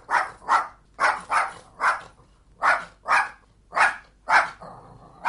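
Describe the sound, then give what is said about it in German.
A dog barks repeatedly, about ten sharp barks in quick pairs and singles with short pauses between, clear, with no talking. “Aber dieser Hund, den man eben hörte, beherrscht er das Morse-Alphabet?”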